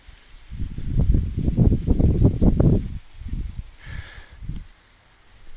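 Dry crop stalks in a farmer's field rustle as someone walks along a path through the middle of it, in a series of dense, crackling swishes that build and run together, then thin out into a few softer, scattered rustles with no voices.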